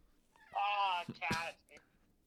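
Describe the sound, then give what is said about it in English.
A loud cat meow in two quick parts, a long drawn-out cry followed by a shorter one, from a cat that has jumped on a piano, against an otherwise quiet background. “The cat jumped on the piano.”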